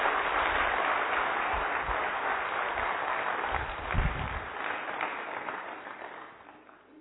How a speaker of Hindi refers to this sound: हमारे ऐसे डेडिकेटेड भाई बहनों के लिए जोरदार तालियां हो जाए.